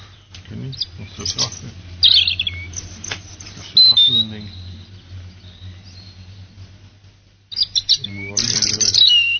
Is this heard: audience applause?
no